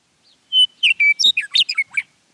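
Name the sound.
western Meadowlark song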